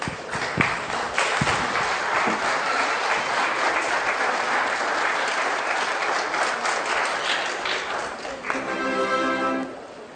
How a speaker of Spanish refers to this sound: Nuestro siguiente tema o conferencia viene siendo una presentación artística. Recibámoslos con un fuerte aplauso.